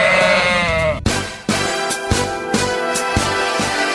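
A sheep lets out one loud, quavering bleat, then it cuts abruptly into busy music with a steady, punchy beat.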